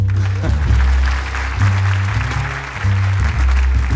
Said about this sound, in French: dernier morceau de ce concert, enfin de notre concert. Vous pouvez applaudir.